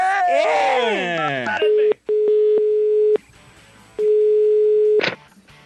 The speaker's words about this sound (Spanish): ¿Ese timbre, ese teléfono qué?